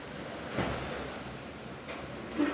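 Wind blowing in through open windows makes a steady, hissing rush with no one talking, rising in a few brief gusts that swell and fade against the constant airy noise.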